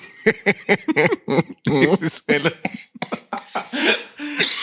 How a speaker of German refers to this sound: wenn ich lachen muss, kommt immer noch dieser Hustenreiz